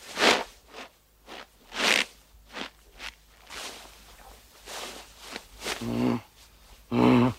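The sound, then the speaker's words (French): An animal breathing heavily in a series of rough, airy huffs at an uneven rhythm, some loud and some faint, with the last few turning into low, voiced snorting grunts. “Ah, écoutez, on dirait la respiration d'un animal.”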